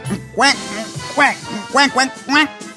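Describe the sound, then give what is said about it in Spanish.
A person imitates a duck with four nasal, raspy quacks at a steady, slightly uneven rhythm, fairly loud, with brief pauses between each call. “Oye, tartamudo, ¿cómo hacen los patos?”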